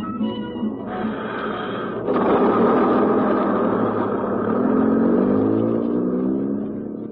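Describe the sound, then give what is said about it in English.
A heavy bus engine rumbles, growing louder as the vehicle pulls in, its motor droning and shifting pitch before easing down near the end. No one speaks. “He didn't get off that bus.”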